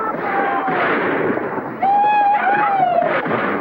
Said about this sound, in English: When the men look out, they see three guys galloping their horses down Main Street and firing their pistols into the air. That's three of the Bar X outfit letting off steam.